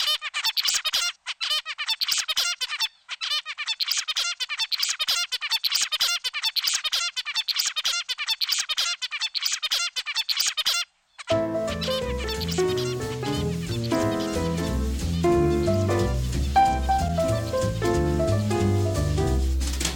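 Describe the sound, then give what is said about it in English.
An adult zebra finch sings a fast, repetitive, stereotyped song of buzzy, nasal chirps, looping the same phrase clearly for about ten seconds before music takes over. “As they grow older and learn, the baby bird's babble becomes more boring and predictable, or what researchers call the stereotyped, never-changing song of adult zebra finches.”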